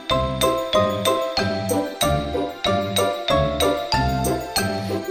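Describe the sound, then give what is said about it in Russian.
A teaspoon, played as a makeshift musical instrument, tinkles against cups in a steady, even rhythm: about a dozen bright, ringing strikes at regular intervals, each note lingering briefly before the next. No voices are heard. “Чашечки к себе подвинь, ложечкой звени динь-динь.”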